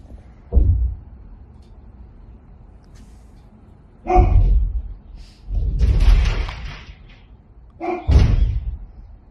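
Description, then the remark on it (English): Doors of a house rattle and bang from bombing in four heavy bursts, each a deep thud with a harsh rattling edge, the third one longer and noisier, separated by a low background rumble. No talking. “It's door rattling.”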